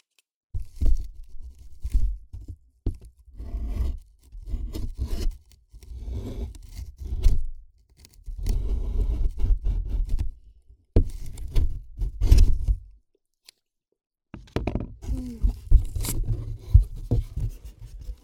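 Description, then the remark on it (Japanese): Crisp scraping and crinkling as a newly delivered package is cut open at home with scissors and the wrapping pulled apart, in irregular bursts with short pauses between them. “さてと、開封しますか。”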